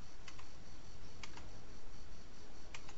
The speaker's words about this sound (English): Get that clicky keyboard working. Beautiful.